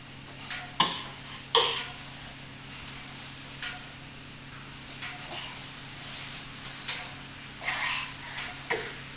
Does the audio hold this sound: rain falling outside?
no